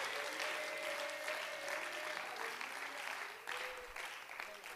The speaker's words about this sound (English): Somebody clap your hands and praise Him right now. Clap your hands and praise Him right now.